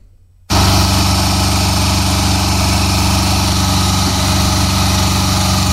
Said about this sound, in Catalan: Això que sentiu de fons són unes obres que encara duraven aquesta setmana i que ja haurien d'haver acabat.